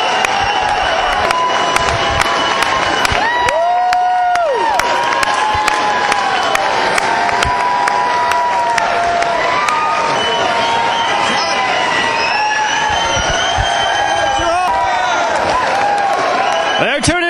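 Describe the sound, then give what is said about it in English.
A packed crowd on its feet at the Wild Horse Saloon cheers in a frenzy, a loud, continuous roar of shouts, high whistles and scattered clapping that rises and swells without a break for the whole stretch. “Everybody in the Wild Horse Saloon is going crazy.”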